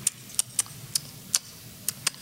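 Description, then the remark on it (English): Someone imitates chewing with their mouth: about seven sharp, crisp smacking clicks at uneven intervals, fairly faint, over a low steady hum with no talking. “mouth sounds, just a lot of them.”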